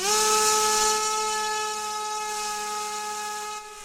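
A drone's steady, high-pitched electric whine with a buzzy, layered tone holds one pitch throughout, loud at first and easing slightly softer toward the end, with no voices. It is an environmental drone co-developed by ETH Zurich, circling over the Tripa swamp forest in the western coastal area of Aceh, under sun above 40 degrees.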